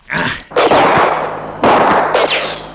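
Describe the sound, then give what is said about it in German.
Several loud, sharp gunshots ring out in quick irregular succession, each burst booming with a long reverberant tail, with no voices; the shots are fired at a large snake fleeing into the reeds of a swamp. “Die Schlange war zu schnell für einen guten Schuss.”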